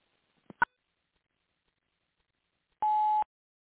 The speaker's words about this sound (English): Please leave a message for them at the beep.